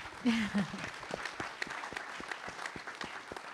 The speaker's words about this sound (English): Let's clap.